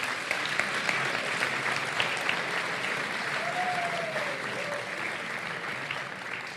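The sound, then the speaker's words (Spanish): Sustained applause from an audience fills the space, a dense, steady patter of many hands clapping at even loudness throughout, with a faint whistle rising briefly partway through. “Un aplauso a los nominados.”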